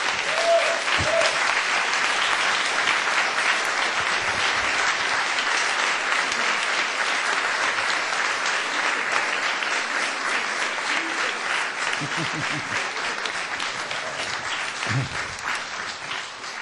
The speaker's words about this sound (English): Save some of that applause.